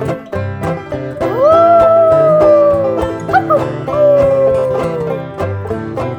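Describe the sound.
A voice imitates a puppy's howl: two long, wavering howls that swoop up and slowly sink, sung clearly over a bouncy musical backing with steady drum beats.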